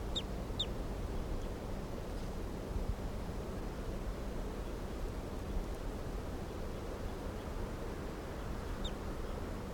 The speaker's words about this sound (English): Start recording the bird 332, kind of weak.